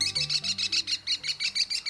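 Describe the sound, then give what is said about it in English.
An American Kestrel calls in a fast, steady series of sharp, high-pitched notes, about a dozen shrill klee-klee cries in two seconds, with no talking. “The American Kestrel is the smallest falcon in North America and perhaps the best looking.”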